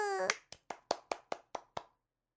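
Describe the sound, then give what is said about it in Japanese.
A short voiced cry gives way to about eight crisp hand claps in a steady, even rhythm, each sharp and bright, ending abruptly into silence. “イエーイ、拍手。”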